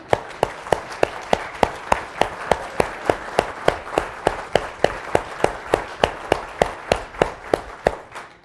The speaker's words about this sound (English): 70 years you have followed Jesus. Let's stand up again and applaud our sister over here.